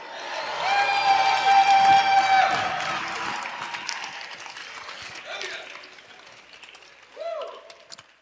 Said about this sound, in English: Go ahead, clap and shout. Let the redeemed of the Lord say so.